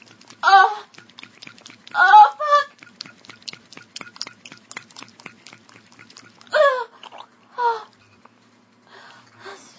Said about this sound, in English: Oh, I don't know if you can hear it just get wetter and wetter. Oh, yeah. You hear the vibrator like splashing against all the pussy juice.